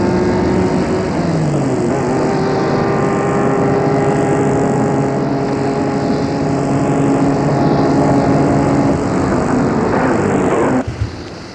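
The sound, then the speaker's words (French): A black car's engine hums loudly and steadily as it comes along a road, its pitch shifting slightly as it runs, then cuts off abruptly near the end as the car stops, leaving a brief quiet. “Gilles voit arriver sur la route une voiture noire.”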